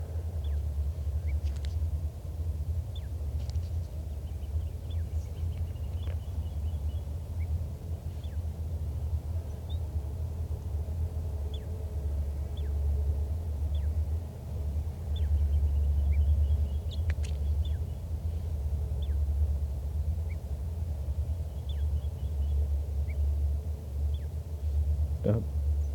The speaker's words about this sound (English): Recording again that wild bird in soft song.